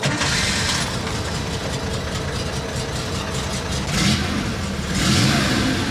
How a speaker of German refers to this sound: Das ist der frühe Sound des 911er und damit der Sound von Porsche.